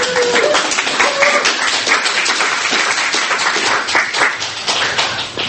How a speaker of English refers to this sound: so I think that deserves a round of applause.